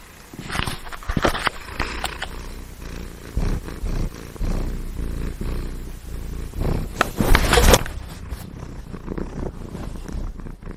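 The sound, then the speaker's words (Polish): A female cat purrs in a steady, rumbling drone, with soft rustling and a few louder bumps and shuffles breaking through now and then. “No, mam nadzieję, że się trochę nagrało tego mruczenia.”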